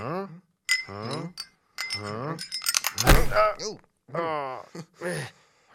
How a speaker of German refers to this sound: Da bimmelt was. Ach, das ist bestimmt eine Katze. Hä? Katze? Katzen bimmeln doch nicht.